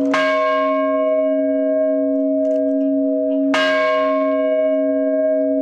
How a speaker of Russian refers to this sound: Она была возведена в память поколений моряков-совгаванцев прошлых и грядущих. Там владыка Владимир по морской традиции трижды ударил в старинный колокол.